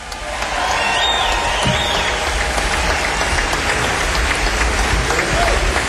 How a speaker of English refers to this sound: How about just a great, wonderful round of applause for acknowledgement for the great Ellis Marsalis in the house, y'all.